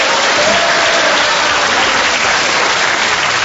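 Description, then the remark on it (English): A steady burst of audience applause, dense and sustained, many hands clapping at once with a bright, hissing texture and no voices rising above it. “The next day, I rose with my manservant, Grimbling, whom I mentioned only to get a cheap round of applause.”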